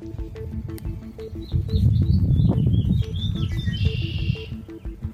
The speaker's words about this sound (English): You can just about hear them against the wind. They are a mixture of finches, thrushes, warblers and blackbirds